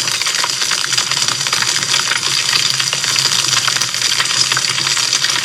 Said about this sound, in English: I'll go down. A fire pit is nearby. A fire pit is nearby.